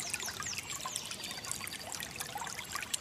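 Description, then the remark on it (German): The Heisterbach, a small brook, babbles and trickles steadily: a continuous gurgle of flowing water with bright splashy detail, while faint bird chirps flit above it. “Der Heisterbach plätschert.”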